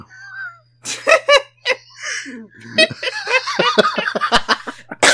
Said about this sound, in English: That was so funny, it made me cough.